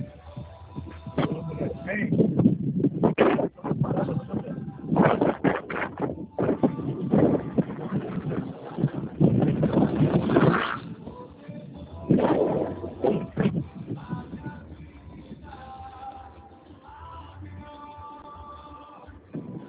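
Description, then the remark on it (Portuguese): A motorcycle engine is started and rumbles steadily, with gusts of wind buffeting the microphone and uneven surges in loudness throughout. “vou ligar a moto aqui.”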